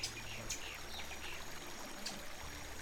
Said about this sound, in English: Crossing Overton Bridge, dogs would also hear a cacophony of sounds. The local birds up above, the leaves of the trees rustling, and the brook flowing below.